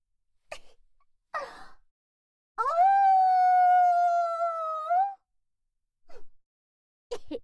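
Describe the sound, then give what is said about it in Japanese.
A human voice imitates a wolf howling in one long, sustained note lasting a few seconds, rising then holding steady, framed by short breathy sounds and quick intakes before and after. “なあなあ、一回だけ吠えてもいいか。こんな綺麗な月を見てたらなんだかうずうずしてきたぞ。”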